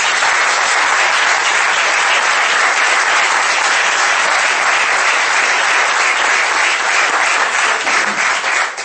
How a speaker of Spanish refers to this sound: Muchas gracias a los tres ponentes. Y yo creo que ahora sí se merece un aplauso.